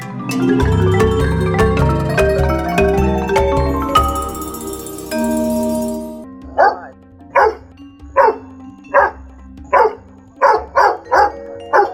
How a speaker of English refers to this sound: Barked the dog, "Want to chase a cat?"